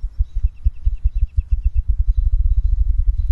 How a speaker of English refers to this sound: That low human hum from the visitor center probably affects the spruce grouse more than any other bird we've heard.